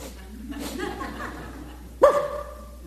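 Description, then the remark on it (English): A person mimics their dogs barking when told to get someone, making a run of rough, yappy vocal noises followed by one sharp, loud bark-like yelp that trails off. “I tell my dogs, Sterling come up on the porch, my dogs are just, and I say, get them! And they just go.”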